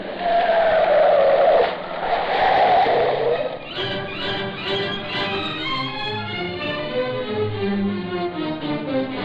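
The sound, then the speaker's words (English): A car's tires screech loudly as it brakes hard, then the engine revs and whines with a shifting pitch as the car stops and quickly turns around on a waterfront road leading to North Cove, with no voices. “Wait, Cato, stop the car. We gotta turn around quick.”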